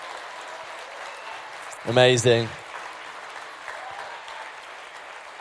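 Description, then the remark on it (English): A crowd applauds and cheers at a church baptism in a steady, dense wash of clapping that lasts throughout, with one voice briefly calling out loudly over it partway through. “Wow, let's keep cheering, guys. Let's keep cheering.”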